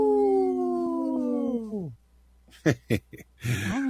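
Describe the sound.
A person imitates a howl to call a dog: one long, steady, wavering call held for about two seconds, then sliding downward and stopping, followed by a few short, sharp vocal bursts.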